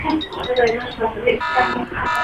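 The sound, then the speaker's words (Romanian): A phone alarm plays loudly, a bright electronic tone with shifting melodic notes and buzzy harmonics, running continuously with voices faintly mixed in. “A, nu, alarma mea.”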